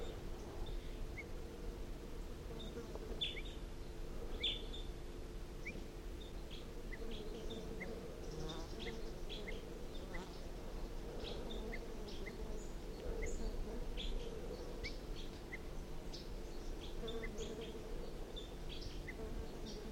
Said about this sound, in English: So recording again, wild bird alarm calls.